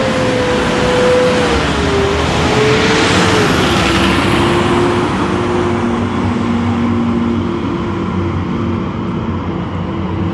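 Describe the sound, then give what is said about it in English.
A loud garbage truck rumbles past for the whole stretch, with a steady engine drone and a whining tone that dips and rises as it passes. “Trash truck.”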